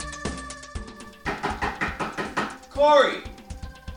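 Loud knocking by a father on his son's door: a couple of single heavy thuds, then a fast, insistent run of repeated raps, briefly interrupted by a short sliding vocal sound before a few more knocks.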